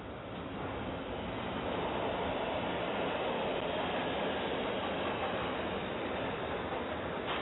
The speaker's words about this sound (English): Hold on, let me let you hear it again. It's the subway.